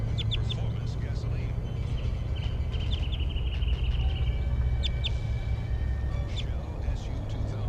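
An orange male wild bird, sitting on a power line above the road at the Animal Behavior Station and recorded from 8 meters, calls with a run of short, high-pitched chirps, some in quick clusters and some spaced apart, over a steady low rumbling hum.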